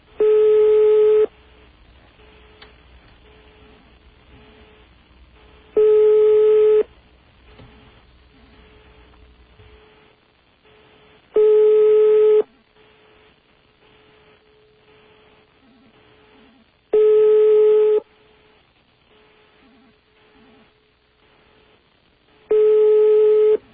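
A foreign telephone ringback tone from a call to a radio station in Zagreb, Croatia (city code 41): five single long, steady buzzy beeps spaced about five seconds apart, with quiet line hiss between them and a low rumble early on.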